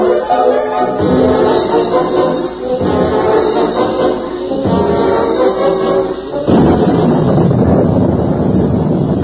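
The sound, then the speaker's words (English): Loud, rolling thunder from an approaching storm, with lightning lighting up the whole sky, rumbles on without pause, swelling in several heavy waves with a fresh burst near the end; no one speaks. “That lightning. Yeah. Lit up the whole sky. We're in for a real one.”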